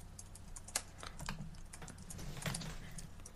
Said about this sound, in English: I'm making my lineup here. Yeah, I'm typing it out so I don't miss anyone.